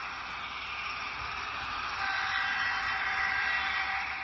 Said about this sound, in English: Can you spot the difference? They don't sound the same, nor should they. That second train is on a model layout, an N scale. 1 foot in N scale is about 160 feet in the real world.